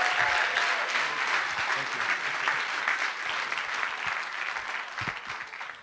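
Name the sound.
audience clapping and applauding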